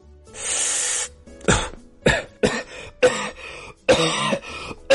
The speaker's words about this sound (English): And man, we all know a coughing Carl.